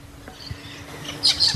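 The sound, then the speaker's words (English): Birds chirp in a few quick, high-pitched bursts toward the end, set against a soft, hissy outdoor background with low rumbles. No one speaks. “Looks like they're covering birds now.”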